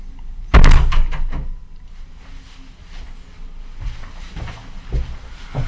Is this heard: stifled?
no